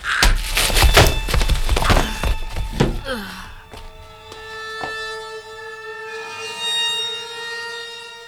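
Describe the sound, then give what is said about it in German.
A cluster of dull thuds and scuffles ends in a solid blow striking the back of a head, followed by a few softer knocks and a sustained high ringing tone that lingers to the end. “Der Schlag kam wie aus dem Nichts, traf meinen Hinterkopf und die Welt explodierte in Millionen bunter Sterne.”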